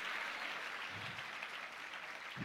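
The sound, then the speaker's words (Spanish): An audience claps steadily during a church sermon, applauding God, a dense, continuous wash of many hands filling the whole moment, with low murmuring underneath and no clear pauses. “Si ese es el aplauso, dáselo más fuerte a tu padre y dígale a su hermano, no cambies tu mensaje.”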